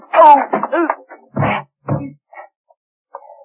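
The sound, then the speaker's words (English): A door slams shut: two heavy, booming thuds about half a second apart, following a brief loud shout, then a few faint knocks trailing off. “I hear the door slammed.”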